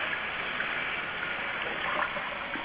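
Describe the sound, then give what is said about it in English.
Steady running water pours continuously from a tap while dishes are being washed, an even hiss of flowing water with no voices over it. “Now I can finish my dishes.”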